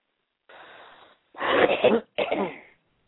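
A raspy, wheezing intake of breath, then two loud, harsh coughs in quick succession, each rough and throaty, with no talking around them.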